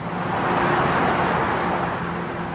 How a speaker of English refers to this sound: Sounds like blowtorches, the tall tower crane, the wonderful noise of the bay beneath, and the cars that are passing on the new Bay Bridge right next to it.